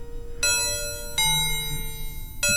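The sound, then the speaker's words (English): Three bright bell strikes, each ringing out with a long, sustained metallic tone that carries over until the next hit, loud, with no voices. “Every once in a while, we'll get a tail on one of the bells. It'll trail off real long.”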